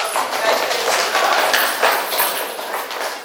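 A conference audience stamps and shuffles loud shoes on a hard floor, a dense, continuous clatter of many footfalls with scattered sharper taps, fairly loud throughout.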